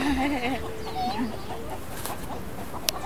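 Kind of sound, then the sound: bird, small birds chirping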